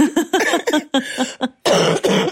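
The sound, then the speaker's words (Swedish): A loud coughing fit: a rapid string of harsh, rasping coughs, a brief pause, then two more heavy bursts of coughing, with no talking. “Vi spelar in 2 avsnitt samma vecka, om ni undrar varför jag fortfarande är hostig.”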